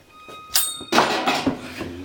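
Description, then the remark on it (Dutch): A heavy metal vault door in a church sacristy is hauled open with difficulty: a sharp high-pitched squeal of hinges, then a loud grinding scrape with a couple of dull thuds as it swings. “Een hele grote metalen deur met een”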